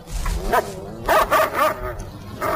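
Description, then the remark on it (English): A dog named Lightning gives a series of short, sharp barks and yips in irregular bursts, mid-pitched and fairly loud, over a low background rumble. “Or rather, we think he's a dog, on account of he slightly resembles one.”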